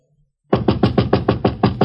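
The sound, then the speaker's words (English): A rapid, steady series of about eight loud, insistent knocks on an apartment door, starting after a brief near-silence with no voices. “Sorry, I knocked, and when you didn't answer, you broke in.”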